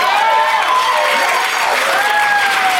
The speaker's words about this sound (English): I thought that should have gotten way more applause than it did.